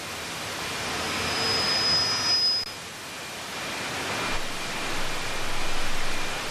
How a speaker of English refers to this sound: That's the static we're hearing now. That's the static? Oh, so we're, this is from... I think it's live.